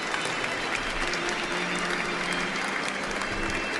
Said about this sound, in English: All the others are distracted by the bride and groom. They crowd around them, applaud, throw handfuls of rice, demand the kiss, the ritual throwing of the bouquet.